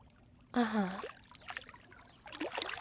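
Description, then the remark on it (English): A short vocal exclamation with falling pitch, followed by a run of moderate water splashes and sloshing as a person lowers themselves into the water at a birthday party. “Take off the towel and get in the water with me.”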